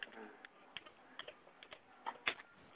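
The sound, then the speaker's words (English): Slow, irregular hunt-and-peck keyboard typing: sparse individual keystrokes tapped one at a time with uneven pauses between them, quiet, with no voices. “Who is peck typing?”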